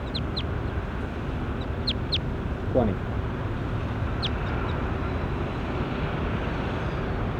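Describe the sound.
A bird, numbered bird 20 by the recordist, gives short, high chirps, mostly in quick pairs, over a steady hiss of background noise, while a voice briefly speaks a single word partway through.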